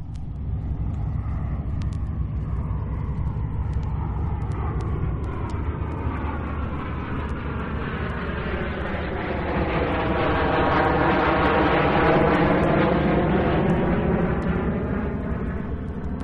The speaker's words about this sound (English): Now we come to the modern engine, the turbine engine, the jet. And what you have just heard is a Meteor. Now, the Meteor was the first jet-propelled fighter in service. It had two jets. It was a twin, a single-seater, and it was made by Gloster's.